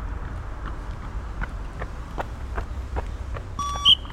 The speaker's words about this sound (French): Vous entendez les bips au fond ?